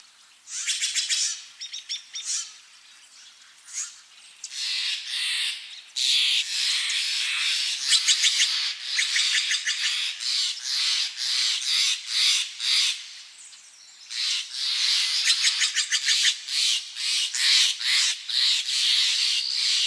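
Several songbirds along the banks of the Russian River, just north of Marin County, sing and chirp in an overlapping chorus, with bright, high trills and rapid repeated notes that run almost continuously, broken by brief pauses and occasional harsher squawks.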